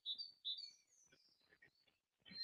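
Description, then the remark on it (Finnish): Birdsong fills the scene with bright, high chirps and trilling phrases, a few loud bursts rising over quieter twittering, with no voices present. “Toivottavasti tämä linnun laulu tässä taustalla ei ketään häiritse, että se ei ole liian kovalla.”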